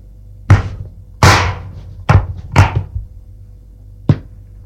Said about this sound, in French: Elle trouvait facilement qu'elle a entendu le bruit du tiroir qu'on ouvre et qu'on ferme.